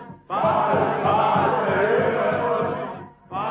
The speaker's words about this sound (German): Nun beginnen die Götzendiener, ihren Gott anzurufen. Sie fangen an zu tanzen. Sie bewegen sich immer erregter, wilder. Ihre Leiber glänzen von Schweiß. Sie rufen und schreien.